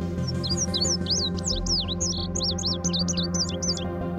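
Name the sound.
indigo bunting song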